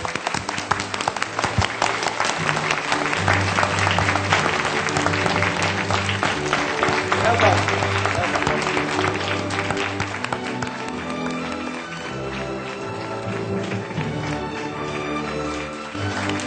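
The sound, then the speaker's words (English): Sustained audience applause welcoming Mr. Bob Xi as he receives a global award presented on behalf of Supreme Master Qinghai, a dense, steady wash of many hands clapping for about sixteen seconds, with a low musical accompaniment playing underneath and no talking. “Let's welcome Mr. Bob Xi with a warm, warm applause.”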